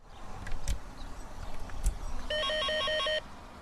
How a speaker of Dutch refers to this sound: De telefoon neemt hij ook niet op, dus wellicht later een nieuwe poging.